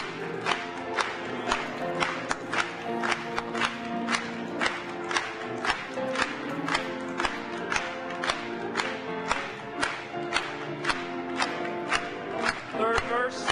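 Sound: audience clapping hands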